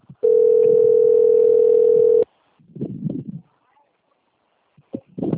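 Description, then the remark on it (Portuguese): A telephone ringing tone sounds once as a steady, loud, mid-pitched hum for about two seconds, with no answer. Afterward, muffled voices talk in brief bursts. “The number is not answering.”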